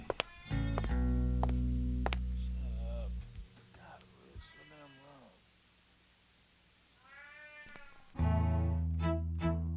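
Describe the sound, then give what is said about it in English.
Several drawn-out, wavering cat meows rise and fall amid loud sustained droning tones in an analog sound piece based on Schrödinger's cat, with a quieter stretch in the middle before the dense tones swell back in. “The cat's in a box. It's both dead and alive.”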